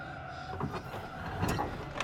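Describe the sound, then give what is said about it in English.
A car's front passenger seat crank window rolls down on its own with a steady mechanical whir and grind lasting about two seconds, marked by a few soft clunks along the way. No one speaks. “The front passenger seat window begins to roll down.”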